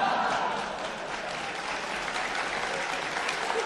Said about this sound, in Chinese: 不爱听歌，你看我刚才唱那两句啊，唱的是字正腔圆，还甭说唱，刚一道白，同志们就给予鼓励，就报以热烈的掌声啊。